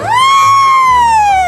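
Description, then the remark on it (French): A loud, brassy elephant trumpet that rises sharply, then holds a shrill, sustained blare for over a second before sagging slightly at the end, unaccompanied by voices. “J'aimerais savoir quel est le cri de l'éléphant.”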